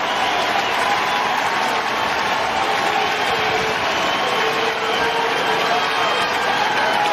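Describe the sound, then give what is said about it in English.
A large baseball stadium crowd applauds and cheers in a sustained ovation as Bell goes off after being ejected, dense clapping and roaring voices holding steady and loud throughout with no break. “But Bell goes off to an ovation.”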